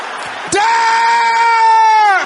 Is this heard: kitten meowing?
no